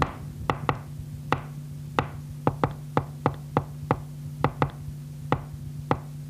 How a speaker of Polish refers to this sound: A w październiku przeprowadziliśmy taką próbę. Mnie przyszła do głowy taka myśl, żeby mu wypukać jakąś melodię. I ja mu wypukałem to.